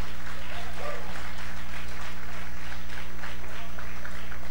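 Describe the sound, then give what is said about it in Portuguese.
An audience claps together in applause to the Lord, a dense, steady patter of applause that holds for several seconds over a low, constant hum. “Aplauda al Señor.”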